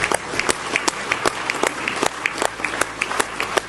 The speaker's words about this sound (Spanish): Así aplaudía la Cámara de Diputados rusa esta decisión, acuerdos en los que Putin ha intentado dar un golpe sobre la mesa de cara al mundo.